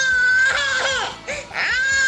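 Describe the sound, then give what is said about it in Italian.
A baby held in someone's arms cries loudly, a continuous wailing with rising and falling pitch and brief catches of breath between cries. “Ah, perché c'ha il bambino in braccio.”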